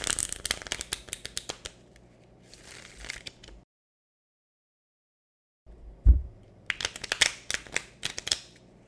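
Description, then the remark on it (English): Tarot cards being shuffled: quick, crisp papery riffling in two bursts separated by a couple seconds of silence, with a dull tap as the second round of shuffling begins. “I'm working on my shuffle.”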